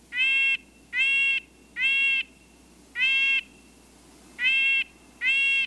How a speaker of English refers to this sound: The word nasal comes to mind when describing the call of a red-breasted nuthatch.